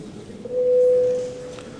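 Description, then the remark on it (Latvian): A steady electronic voting bell tone rings for under a second in a parliament chamber, called before a vote on passing bills in first reading, clear and fairly loud against a low murmur of room noise. “Lūdzu zvanu, balsosim par likumprojektu pieņemšanu pirmajā lasījumā.”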